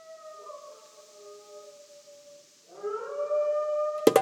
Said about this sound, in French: La lune est si belle que les loups hurlent pour la prévenir de sa beauté.